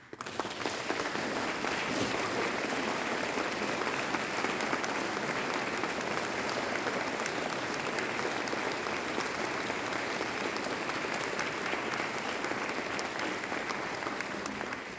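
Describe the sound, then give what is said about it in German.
Sustained applause from a large audience at a concert in a Protestant church, thanking those who helped the concert succeed; a dense, steady wash of clapping hands that stays loud and even for the whole stretch with no talking over it. “Vielen Dank alle, die am Gelingen dieses Konzertes mit beigetragen haben und denen ist auch ein großer Applaus wert.”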